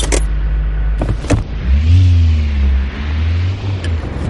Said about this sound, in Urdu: یہی کام ایک turbo charger بھی کرتا ہے. والوو ڈرائیو ای نامی کار میں ایسے 3 ٹربو چارجر ہیں اور اس کے انجن کو 450 ہارس پاور کی طاقت دیتے ہیں.